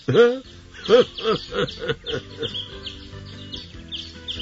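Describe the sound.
A voice imitates caged birds chirping early in the morning before sunrise, with a quick series of bright, rising chirps, about eight of them in steady rhythm, fairly loud, then fading into softer twittering.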